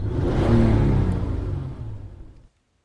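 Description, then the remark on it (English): A loud car engine revs hard for a couple of seconds in the street below, a deep rumbling roar that swells early and then fades before cutting off abruptly, heard alone without voices. “Loud enough to tense them both up an annoyingly loud rev of an engine down below in their street.”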